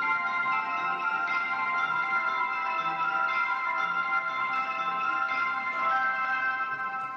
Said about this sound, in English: Our survey of the musical All Aboard sounds of the Japanese railway system was produced by Andy Raskin.